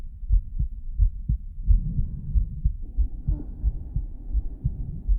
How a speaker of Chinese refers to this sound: 好的，心跳也听了这么久了